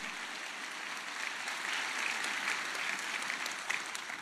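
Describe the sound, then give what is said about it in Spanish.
An audience at a church service applauds steadily, a dense wash of many hands clapping that holds at an even level throughout, with no voices standing out. “Una vez más, vamos a darle un aplauso por el cumplimiento.”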